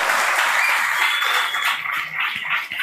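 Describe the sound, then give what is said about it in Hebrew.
Sustained applause from an audience in honour of the rabbi, a dense steady wash of many hands clapping at once, fairly loud and continuous throughout without any speech. “כפיים לכבוד הרב, שמשמור עליו, אמן.”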